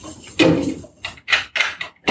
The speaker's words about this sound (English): Scrooge arrived home and climbed the many flights of rickety stairs to his garret flat. It's cold. Scrooge opened his door and locked himself in.